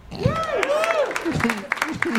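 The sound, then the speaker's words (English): Scattered applause from a supportive audience applauding every answer, sharp claps pattering over a couple of seconds while voices talk over it. “Applauding every answer.”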